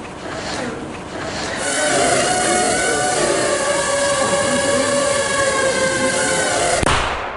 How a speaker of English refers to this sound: He throws it out the audience. It comes in. It finds a mannequin. Hits it in the forehead. That little bang is enough to penetrate the skull and destroy the contents. Again, with a shaped explosive.